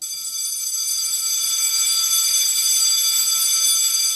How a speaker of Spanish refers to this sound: Este es el típico sonido del timbre de un colegio, en este caso de un instituto, que escucha todos los días nuestra siguiente invitada.